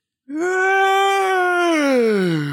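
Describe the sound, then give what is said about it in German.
A loud, drawn-out voiced yawn lasting about two seconds, holding a fairly steady, slightly rising tone before sliding lower at the end, with no talking. “Das klingt wie eine Hyäne.”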